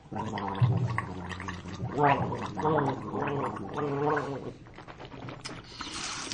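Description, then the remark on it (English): A voice imitates the gurgling, bubbling sound of taking a hit of weed off a bong, a rough, rattling burble lasting several seconds with wavering pitch, ending in a breathy hiss. “Oh, no, I was just pretending I took a hit of weed off a bong.”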